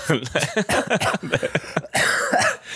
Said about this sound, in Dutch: Laat me hoesten, man.